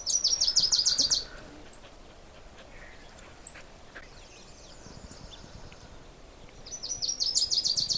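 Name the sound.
wilson's warbler song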